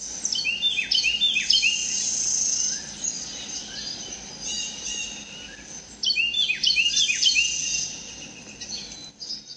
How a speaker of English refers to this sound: I was drinking coffee early on Christmas morning and heard this lovely bird song in my backyard. It's a Carolina wren, and it's not real common in Iowa, so I felt really lucky to hear it.